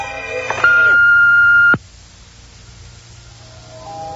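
A single sustained electronic beep, steady and pure in pitch, sounds for about a second over faint background noise and then cuts off abruptly, leaving quiet hiss behind.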